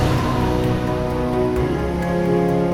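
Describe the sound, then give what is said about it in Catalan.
A strong tramontana wind at a castle roars steadily and loudly, a dense rushing hiss that surges slightly in gusts, with no voices over it. “Hosti, quin pet de tramuntana.”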